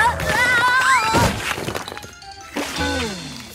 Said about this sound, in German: Der Hebel löste sich und ein Leckerli nach dem anderen kullerte aus dem Glas heraus und über den Boden.